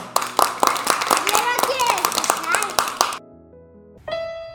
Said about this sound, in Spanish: Bueno, pues hasta aquí nuestra lección de hoy, ¿eh? ¡Un aplauso!